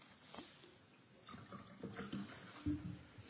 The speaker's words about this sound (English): I'm going to do it again here. See this? A bit more water.